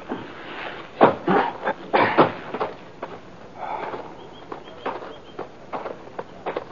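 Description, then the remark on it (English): Horses shift and move about as they are tethered to a couple of spruce saplings, hooves clopping and thudding irregularly on the ground, with soft scuffs and rustling between the steps and no talking. “We tethered our horses on a couple of spruce saplings, moved into the cave entrance.”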